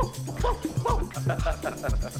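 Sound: dog barking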